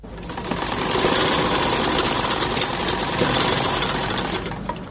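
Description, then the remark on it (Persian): A sewing machine in a small tailor's shop, where men's clothes are being sewn and five apprentices are at work, runs steadily for the whole stretch: a dense, rapid mechanical whir and clatter at an even, fairly loud level, with no voices. “در یک دکان کوچک خیاطی همراه با 5 تن شاگردش سرگرم کار است و لباسهای مردانه می دوزد.”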